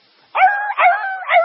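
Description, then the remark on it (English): A voice imitates the yelping squall of a big dog running with its tail between its legs: three quick, high, whining yelps run together after a brief silence, loud, with no words spoken. “And I looked and here come a dog, honestly, that was pert near between my knees and my belt. Coming down through there with his tail between his legs, just a squall.”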